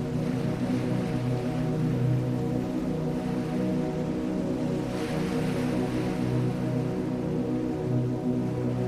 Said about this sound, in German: Wo gerade noch das offene Fenster einen Blick in die schlafende Nacht gewährt hat, drückt sich nun mit harscher Gewalt das Meer an die uns umgebende Küste.